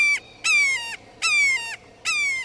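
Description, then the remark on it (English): A red-shouldered hawk calls loudly, repeating harsh, downslurred kee-ah screams about four times in a steady rhythm, with no other sounds around them. “Red-shouldered hawks, a fixture of California, used to be rare in Washington, but are now fairly common.”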